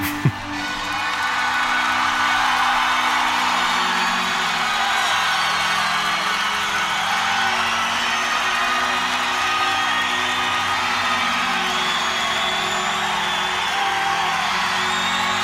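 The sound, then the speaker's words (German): A loud, dense live rock recording, the opening track of an album, recorded on the first of three concert nights, with a steady wash of distorted sound and shifting bass notes, while the audience whoops and cheers throughout, high excited shouts riding over the music. “Da können wir ja mal reinhören, wie sich das anhört, dieser Song, der gleich mal klarstellt, was wir für ein Verhältnis zur Plattenfirma haben.”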